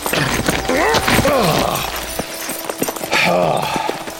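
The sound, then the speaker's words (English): Horse hooves clip-clop in a quick, uneven run of sharp knocks, fairly loud, with a wavering, voice-like cry early on and steady background noise throughout. “Now get that horse between your knees and get a move on.”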